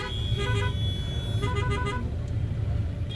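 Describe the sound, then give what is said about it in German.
Busy road traffic rumbles steadily while car horns honk in short repeated bursts, two clusters of beeping toots over the constant low engine drone, heard from a car moving through crowds of people, vehicles and pilgrims heading to the Ganges, traffic repeatedly standing still. “Wir sitzen im Auto und versuchen uns durch die Massen von Menschen und Fahrzeugen zu bewegen.”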